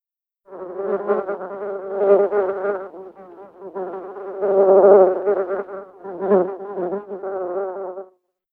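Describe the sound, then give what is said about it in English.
A bee buzzes steadily for about eight seconds, its droning hum swelling and fading in loudness as it moves around. No voices are heard. “There's a bee.”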